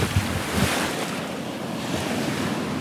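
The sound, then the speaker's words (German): Ocean surf roars steadily at a surf beach on Bali, waves breaking in a continuous washing rush, with a gusty wind buffeting underneath and no voices; about 40 surfers are in the water trying to catch waves. “Mit etwa 40 anderen Surfern aus aller Welt versucht er, die beste Welle zu erwischen.”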